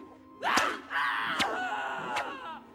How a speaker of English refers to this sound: That's enough screaming, ….